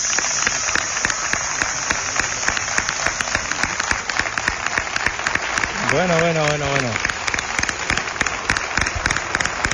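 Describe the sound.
Sustained audience applause, a dense steady crackle of many clapping hands that continues at an even level throughout, with a single voice speaking briefly over it partway through.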